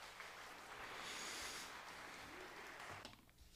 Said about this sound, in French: Bravo. On doit avoir des applaudissements. Ça mérite ça.